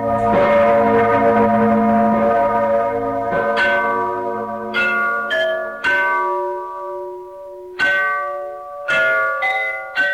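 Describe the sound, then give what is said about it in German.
The large bell of the cathedral in Freiberg in the Erzgebirge, Saxony, Germany, rings loudly, its deep strokes striking at irregular intervals and overlapping in long, humming, slowly fading tones, with no voices present. “Vom Dom schallt die große Susanne.”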